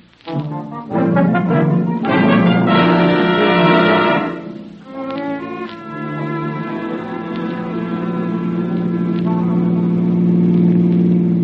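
A car engine roars past, revving hard with a rising whine, briefly dipping, then settling into a loud, steady drone. No one speaks.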